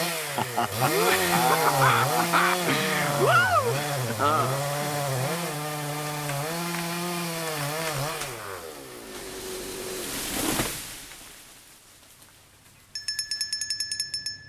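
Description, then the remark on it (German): Chainsaws rev and whine loudly for several seconds, engine pitch rising and falling, then die down; a high-pitched chirping beeping pattern follows near the end. “Unsere Penisse und zwei Kettensägen.”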